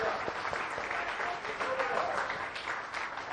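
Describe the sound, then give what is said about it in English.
An audience claps together in praise to the Lord, a dense, steady patter of many hands that holds at an even loudness for several seconds, with faint voices mixed in. “Let's give a clap of praise to the Lord for his faithful.”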